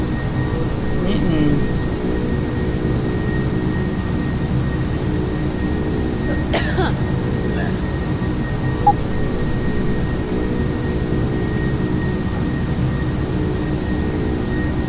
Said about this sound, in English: Yeah, I know I've heard a plane like this before. Maybe it was an Airbus.